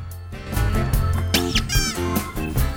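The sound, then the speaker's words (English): A rubber duck in a bathroom lets out a squeaky, wavering honk when a tiger sits down on it, rising and falling in pitch for about half a second over a steady backdrop of light music. “He smiles at the mirror and sits down on a rubber duck.”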